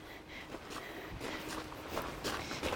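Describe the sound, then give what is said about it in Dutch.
Steady footsteps walk along a path in the garden of a bishop's palace at a relaxed pace, heading to a car, each step a soft crunch, with faint background ambience and no talking. “Nou ja, we lopen nu in de tuin van het bisschoppelijk paleis.”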